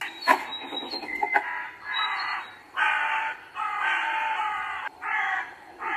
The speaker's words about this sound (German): Und man hört eben auch diese Krähen im Hintergrund.